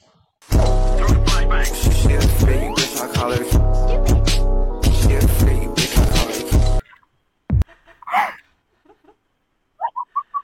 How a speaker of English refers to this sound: Can you hear the music?